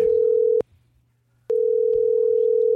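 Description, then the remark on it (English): Telephone line tone of an outgoing prank phone call: a steady, loud electronic hum that sounds, cuts off for about a second, then resumes and holds. No voices. “Oh, Rory, don't make a crank phone call. Not during the show.”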